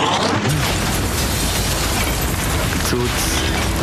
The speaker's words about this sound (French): Une explosion folle. Tout le bâtiment tout simplement s'est effondré.